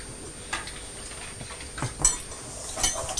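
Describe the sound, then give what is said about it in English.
A child bangs metal forks together in a few scattered, uneven knocks with a slight metallic ring, over a quiet background. No one speaks. “don't bang the forks, Thomas.”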